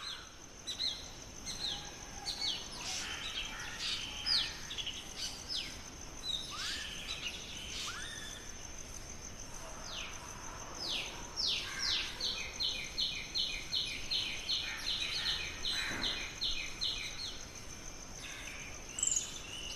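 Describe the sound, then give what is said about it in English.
A busy dawn chorus of many bird species calling and singing at once at a home in South India, with bright repeated chirps, trills and a steady high insect-like whine running underneath, over a soft continuous background hiss. “That's what morning chorus sounds like at my home.”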